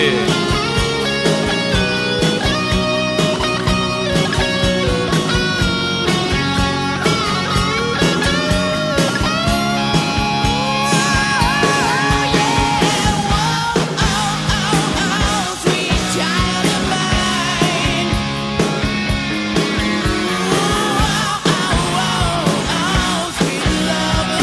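A loud, dense rock song plays continuously from a CD, with driving drums, distorted guitars and a sung vocal line filling the whole stretch at steady full volume.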